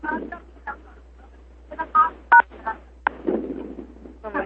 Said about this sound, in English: Remember, it's the number sign twice and one. You can do it on your cell phone, so it doesn't matter what phone you're on. It's the number sign twice and one.